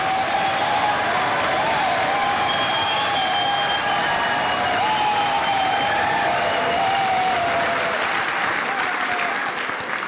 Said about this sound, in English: Thank you for that very generous applause.